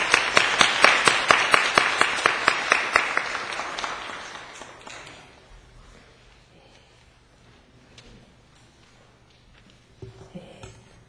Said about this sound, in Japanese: まずは皆さんで拍手を持って講談にお迎えしたいと思います。